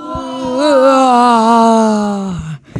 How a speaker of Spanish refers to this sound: Y de pronto alguien abrió la puerta y la gente que estaba asustada le agarró mucho sueño y empezaron a bostezar. ¿Cómo bostezaban?